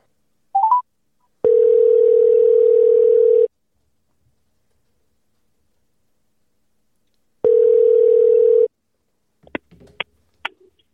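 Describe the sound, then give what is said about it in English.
A telephone ringing tone sounds twice, a steady electronic purr cut by a long silence, with a short chirp before it and a few clicks as the line picks up at the end. “All right, let me call him.”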